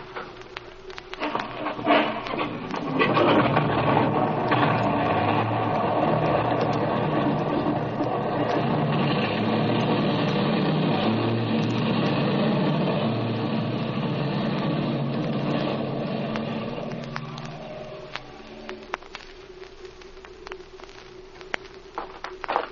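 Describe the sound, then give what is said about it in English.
A small airplane's engine drones overhead as it flies across a canyon, swelling quickly to a loud, steady buzzing roar that holds for a long stretch before fading away, leaving quiet background noise. “Speed's flown across the canyon 8 times now.”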